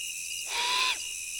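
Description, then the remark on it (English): An immature great horned owl gives a single raspy, hissing screech lasting about half a second, clear, over a steady high-pitched background drone. “Would you believe an immature great horned owl?”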